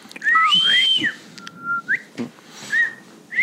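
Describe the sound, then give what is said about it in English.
A person whistles a short Bob White-style signal call of several rising and falling notes, including one held steady tone, clear with no talking. “So I'm like, okay, well, I'll be whistling. You know how we do the whistle?”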